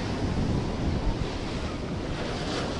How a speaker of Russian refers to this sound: Так. Ну что, вот наша лагунка. Вот наш море-океан. Тихий. Так, тихенький такой океанчик, тихенький.